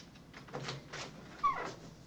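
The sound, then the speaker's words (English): Quiet handling of an apartment door off a corridor: soft scrapes and rustles, a sharp metallic click like a lock turning, then the door swinging open. No one speaks. “He unlocks a door and looks round.”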